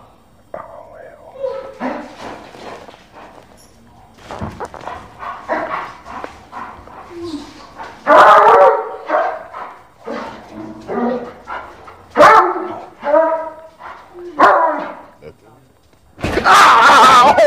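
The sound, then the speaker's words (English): A police dog barks and growls in loud bursts, several sharp barks spaced through the scene, with muffled human voices murmuring in between, as a police officer warns that he will send the dog. “I thought he was talking to the dog”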